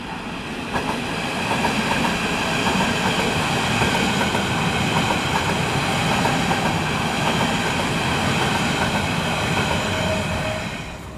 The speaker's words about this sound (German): Wir gehen jetzt hier über eine Brücke rüber und nehmen jetzt erstmal die S-Bahn auf.